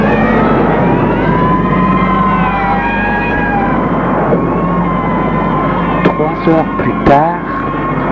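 emergency vehicle sirens

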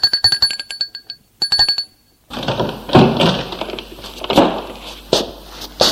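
doorbell ringing

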